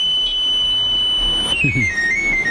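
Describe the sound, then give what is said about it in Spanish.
A street knife sharpener's call: a thin, high pan-pipe-like whistle holds one steady note, then steps and slides downward, with a brief low murmur partway through. “Esta primera versión, al menos en mi casa, va acompañada de alguien gritando el afilador.”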